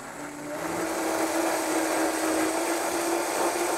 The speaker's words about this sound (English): I'm going to add some Parmesan cheese. Everything just goes in there. Everybody in the pool. Everybody in the pool when you have a good blender. Watch this blender work. It's magic. That's a nice blender.